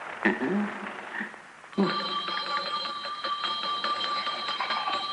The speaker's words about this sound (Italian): In cabina Alfredo sente lo squillo, è il segnale che aspettava.